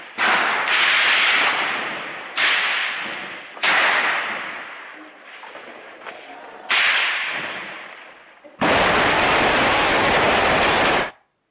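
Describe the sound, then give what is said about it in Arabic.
Loud explosions from the shelling of the al-Mureiji Mosque go off in quick succession, each sharp blast trailing off into rumble, then a long, continuous roaring burst of noise closes the sequence. No voices are heard. “نعم، نشاهد هذا المقطع لقصف جامع المريجي.”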